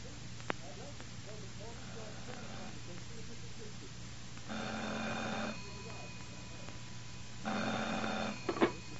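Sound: telephone ringing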